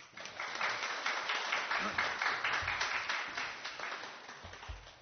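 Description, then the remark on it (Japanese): An audience at a worship service of Tamagawa Christian Church applauds steadily for about five seconds to welcome a guest pastor, a dense wash of many hands clapping at once, with no speech over it. “拍手を持って先生をお迎えしたいと思います。”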